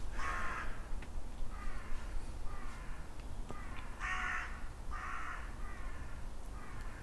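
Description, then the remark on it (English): Crows caw back and forth in a series of harsh, raspy calls spaced a second or two apart, some louder than others, over a steady low outdoor rumble. No one speaks. “Conversation between the crows there. Are they crows?”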